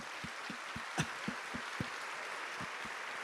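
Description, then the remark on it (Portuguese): A church audience claps steadily, a dense wash of applause with soft, evenly spaced thumps running through it at a quick regular beat, fairly quiet and with no voices. “Pode bater palmas.”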